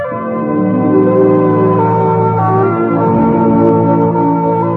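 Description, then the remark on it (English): A short sequence of clear, bell-like NBC radio network identification chimes rings out loudly, each tone sustained and overlapping the next, with no voices present. “So make a date to keep your dial set where you hear the familiar NBC chimes.”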